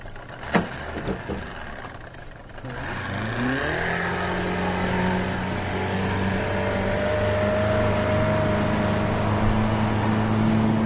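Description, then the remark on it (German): A few clicks and knocks as a man readies a teak motorboat on a tropical night, then its engine turns over and settles into a steady, loud, rumbling idle with a low droning hum. No one speaks. “während er Roys Teak-Motorboot bereit macht”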